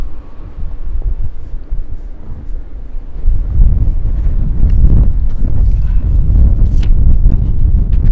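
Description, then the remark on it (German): Wind blows with a low, rumbling roar, steady at first and then rising into stronger gusts partway through that buffet loudly, with no voices present. “Hörst du den Wind?”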